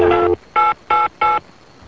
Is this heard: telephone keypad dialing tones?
yes